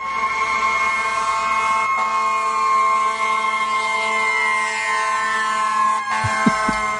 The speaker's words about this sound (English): So you might be wondering why we're playing the sound of a fire truck. And there's a good reason for it.